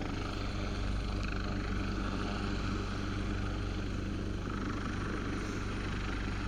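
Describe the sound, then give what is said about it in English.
A rescue helicopter flies overhead, its loud, steady rotor thrum and engine roar filling the whole recording without pause, with no voices audible. “I didn't realise the helicopter was coming, that's come to rescue”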